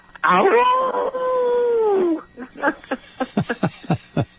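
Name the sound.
person imitating a howl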